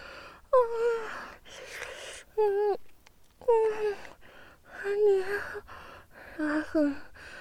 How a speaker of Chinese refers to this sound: 你突然变得好可怕啊！喘息这么剧烈，脸还这么红。